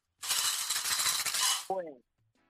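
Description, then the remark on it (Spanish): A busy jangle of 16 coins clinking and rattling together for over a second, like a handful being shaken or poured, ending with a brief short vocal sound. “Ya sabes que hay 16 monedas en total y que 3 monedas son 10 chavitos, 3 de a 10 chavitos.”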